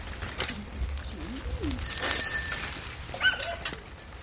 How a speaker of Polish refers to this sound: Szpaki. To jest sezon po prostu na szpaki, szpaki. Słychać ich trele, tym bardziej, że szpaki potrafią naśladywać różne odgłosy ptaków, jak i również ulice.